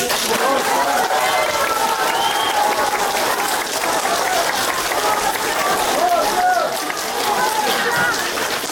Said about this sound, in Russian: Бурные аплодисменты и слова поддержки. Так встречали в суде Константина Котова его друзья, гражданские активисты, правозащитники, политики, публицисты, родственники фигурантов дела «Новое величие».